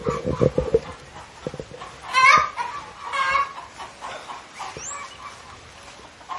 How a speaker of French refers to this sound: Oui, il y a des canards et puis il y a d'autres poules qui pondent aussi.